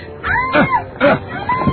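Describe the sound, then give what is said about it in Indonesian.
A woman wails and cries out in fear while her hair is gripped, a few strained, wavering vocal bursts rising and falling in pitch, fairly loud, with no other voices. “Teriaklah terus, karena sebentar lagi nyawamu akan melayang.”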